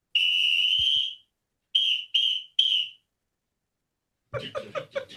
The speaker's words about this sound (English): And he would be leading the band. Yeah. So he's blowing that loud whistle, and you can see him in the background there.